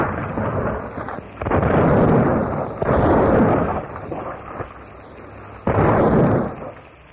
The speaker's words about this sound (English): Hour upon hour, the rattling roar of cannon shatters the peaceful morning, turning the Esmeralda into a mass of crumpled rails, broken stanchions, and splintered wood.